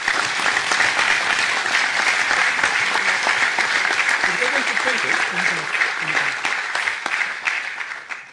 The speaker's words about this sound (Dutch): Maar voor haar wil ik ook heel graag een warm applaus.